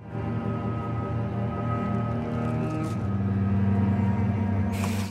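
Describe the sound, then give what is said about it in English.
A steady, low engine rumble fills the inside of a moving bus, droning with strong low tones throughout, with a brief hiss near the end like an air brake releasing. “Now he's on the bus, his eyelids drooping heavily as a low sun shines through the window.”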